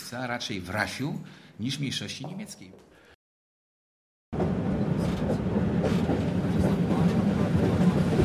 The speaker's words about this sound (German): Gemächlich ruckelt die Straßenbahn neben der mehrspurigen Schnellstraße daher. Alle 5 Minuten ist Halt. Das Straßenbahnnetz im oberschlesischen Industriegebiet ist eines der größten der Welt